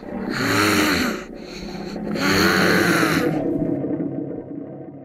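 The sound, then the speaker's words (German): A noise-making instrument called the Quaker gives a deep, rough roaring drone that swells twice in long bursts, grinding and growling like a lion's roar, then fades into a lower rumbling tail; no one speaks. “Es klingt wie ein Löwe, der brüllt ungefähr so.”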